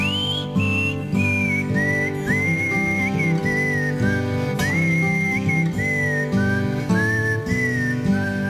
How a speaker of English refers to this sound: You can whistle along if you want to.